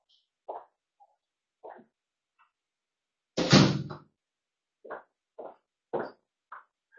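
A lecturer swings a door shut before a web conference, a single heavy thud, surrounded by a handful of lighter scattered taps and shuffles in an otherwise quiet room.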